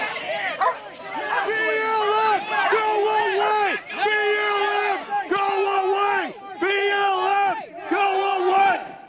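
A man yells loudly and repeatedly in sustained, strained bursts after being tased by agents and ripping out the taser prongs, with a noisy crowd of protesters murmuring and shouting around him throughout.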